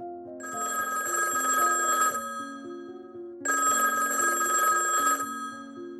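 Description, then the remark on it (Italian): A telephone bell rings one morning in the Mattel offices in two long, bright bursts separated by a brief pause, loud, with a soft musical backing playing underneath throughout. “Una mattina il telefono squilla impertinente negli uffici della Mattel.”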